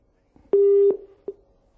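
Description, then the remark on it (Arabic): A telephone busy tone after a caller's line dropped during a call-in TV programme: one steady, low electronic beep lasting under half a second, then a short fainter blip, with no one talking. “كان الهاتف انقطع، يعني عاود الاتصال بالاخ ساري او يعاود الاتصال مره اخرى.”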